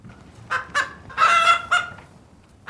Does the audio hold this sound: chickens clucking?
yes